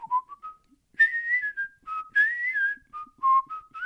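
A person whistles a bright, jaunty melody alone, with clear sustained notes gliding between pitches in a steady tune, moderately loud with no talking.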